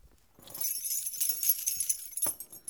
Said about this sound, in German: Sie sucht ihre Schlüssel heraus